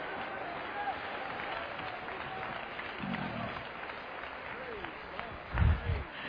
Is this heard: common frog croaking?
no